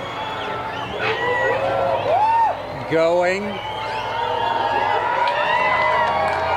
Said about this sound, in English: Here was the moment of total darkness in Russellville, Arkansas. Crowd's getting excited. The crowd, yeah, all around is completely electric.